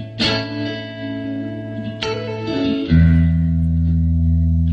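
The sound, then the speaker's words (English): A clean-toned electric guitar played through a Fender Twin amp at a live show at the Music Hall at Fair Park: two strummed chords ring out and sustain, then a lower, fuller chord takes over and holds steadily, fairly loud with no talking. “So clearly a Fender amp here.”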